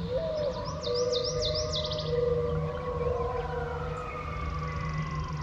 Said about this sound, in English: Coyotes. One final call before heading off to sleep, giving the day over to the song of birds.